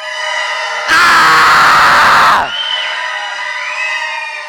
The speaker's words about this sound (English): So on the count of three, we're going to blow these trumpets, and then we're all going to scream our heads off and see what happens.